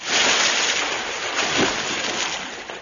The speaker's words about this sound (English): He's fallen in the water.